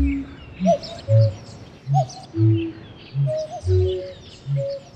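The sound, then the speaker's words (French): A newly hatching cuckoo chick, breaking out of its shell, calling in a steady series of low, rounded cooing notes, roughly one per half second, with brief higher chirps mixed in, with no one talking. “C'est seulement bébé coucou qui, jouant les invités surprises, crève sa coquille de l'intérieur et s'en extrait péniblement à la stupéfaction générale.”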